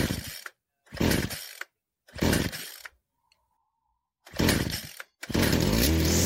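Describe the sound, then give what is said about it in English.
Loud, grinding bursts of a whirlwind of blades inside a bell, like an oversized garbage disposal, clearing out a nest and debris, revving in four separate blasts with short silent gaps between, the last one running on steadily. “The sound of a garbage disposal, but much bigger, are heard coming out from the inside of the bell as a as it just fucking cleans house on the inside of this bell.”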